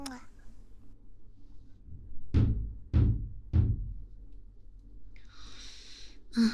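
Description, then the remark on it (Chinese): Three evenly spaced, solid knocks on a door late at night, followed by a soft breathy hiss near the end. “这么晚了，怎么还有人敲门呢？”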